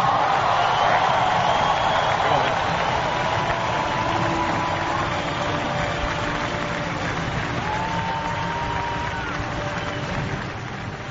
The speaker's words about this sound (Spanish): ¿Quién dijo que 14.000 franceses no podían aplaudir a un español? Yo el primero, por cierto. Ovación cerrada para don Rafael Nadal Parera, que se sube a lo más alto del podio.